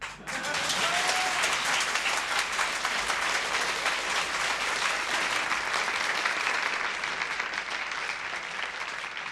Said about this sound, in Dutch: Applaus voor Jasperina de Jong en Erik Herfst in 1965... bij het Lurelei Cabaret op tekst van Guus Vleugel.